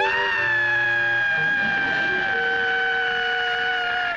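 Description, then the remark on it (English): A loud quitting-time work whistle at 5 o'clock, blown by the boss Mr. Slate, sounds one long, steady, high-pitched blast with a rich chord of overtones, holding for about four seconds without a break and with no one speaking. “That slave driver boss of mine waits till the last second before he'll blow that whistle.”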